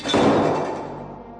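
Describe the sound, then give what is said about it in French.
The heavy door of Noah's ark swings shut with a single deep thud, followed by a long, booming reverberation that slowly fades away. No voices accompany it. “Dieu lui-même ferme la porte derrière eux.”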